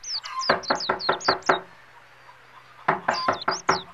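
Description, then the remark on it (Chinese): Loud knocking on the wooden door of the only inn in a small village after sunset: a quick run of about six raps, a pause of over a second, then another burst of four or five raps. No voices are heard. “店家，开门开门，招呼客人。”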